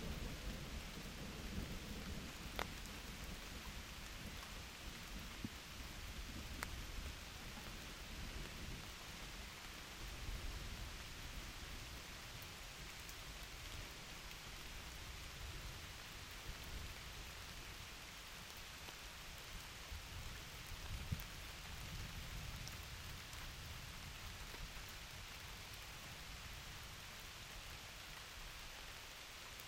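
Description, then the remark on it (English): Steady rain pours down in a dense, even hiss, with low rumbles of distant thunder rolling underneath. No voices, just the continuous wash of rainfall throughout. “So go ahead, step into the rain and let the water nourish you too.”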